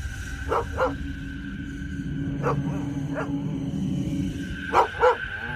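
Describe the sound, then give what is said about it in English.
A dog named William barks repeatedly at about 4:51 a.m. in short, sharp bursts, several coming in quick pairs, with pauses between them, over a steady low hum and a faint constant tone in the background. “in the morning, and he's barking like crazy, and he took off running out across the field.”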